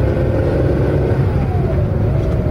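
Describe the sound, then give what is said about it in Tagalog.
A car engine roars steadily, revving with a rising whine as the vehicle speeds too fast along a road, loud and continuous with no voices. “Oh, dahan-dahan lang. Huwag masyadong mabilis.”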